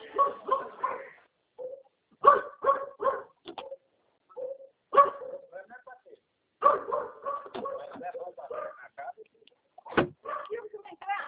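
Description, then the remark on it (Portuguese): A dog barks in repeated bursts of sharp barks, several in quick succession with short pauses between, ending with a single louder bark. “Tranco, cachorro.”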